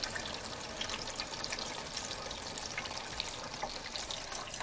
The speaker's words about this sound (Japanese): じゃあ実際にですね、やってみましょう。さあ、それでは岩の上にですね、雨を降らしてみましょう。